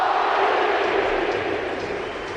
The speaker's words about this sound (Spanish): Luka Modric, que aparece, brazos en alto, aplaudiendo a la gente, con una sonrisa oreja a oreja, se le iluminan los ojos, escucha la ovación, Joseba, y vas a entender por qué es uno de los más queridos.